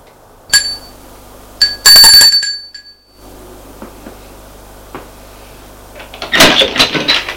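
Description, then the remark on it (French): A man rings a doorbell at a door twice, a quick chime followed by a longer, louder ring, then it fades to quiet room tone with a few soft knocks and a burst of rustling, clattering movement at the end. “Lui va sonner à sa porte.”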